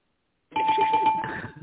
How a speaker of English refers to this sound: Fuck it, I'm gonna hit the bell with the hammer real quick.